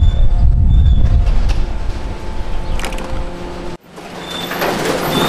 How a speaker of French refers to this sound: Ici, on est dans le domaine de l'ouvreur de sacs. Hein. C'est une machine qui nous permet de nous ouvrir, on va dire, 95% des sacs. Qui ensuite passe sur une bande, comme vous pouvez voir là actuellement.